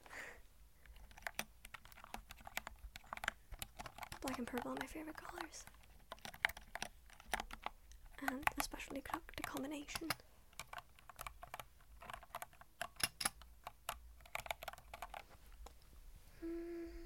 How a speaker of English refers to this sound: I'm not the biggest fan of keyboard sounds.